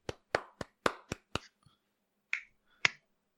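A single person claps by hand: six quick, sharp claps in a steady rhythm, then a pause and two more scattered claps. No voices are heard.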